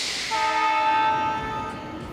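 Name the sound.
train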